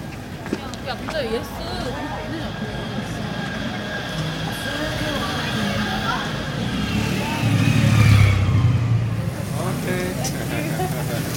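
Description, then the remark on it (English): Busy marketplace bustle with overlapping chatter and the steady drone of motorbike engines from rows of motorbikes stacked high with rolls of carpet and fabric, one engine swelling louder for a few seconds before fading back into the crowd noise. “Bustling marketplace with row upon row of motorbikes, each stacked high with rolls of carpet and fabric.”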